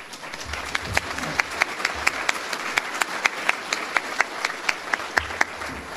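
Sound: round of applause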